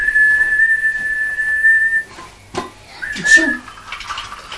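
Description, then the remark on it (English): A person whistles a long, steady, shrill note for about two seconds, imitating a train guard's signal whistle, then a short sliding whistle follows after a brief clatter. “Maybe it could be a guard. Colonium. And you can whistle.”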